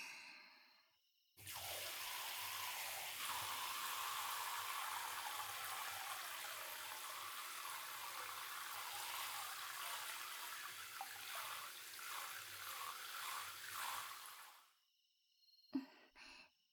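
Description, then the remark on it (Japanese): Water runs steadily for about thirteen seconds, a full hissing splash rinsing off soap foam, shifting slightly near the end before cutting off into quiet, with a small knock afterward. “泡流すね。”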